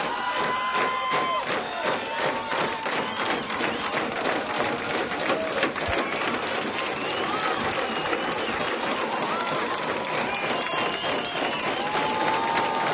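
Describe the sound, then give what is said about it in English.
A large concert crowd at the Old Waldorf in San Francisco keeps up steady, dense applause with scattered cheers and whistles, calling for an encore; a sustained roar of clapping that holds at an even loud level for several seconds. “Well, the crowd's not giving up.”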